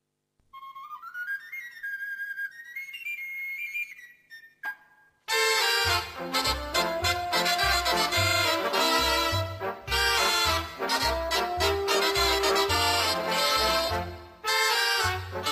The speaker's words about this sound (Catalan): Que facin saltar les seves sardanes.